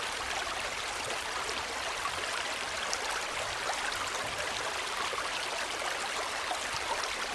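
The Kończak stream pours steadily over a small beaver-built dam of branches and wood pieces, a continuous rushing and gurgling that stays even throughout, with no voices and no pauses.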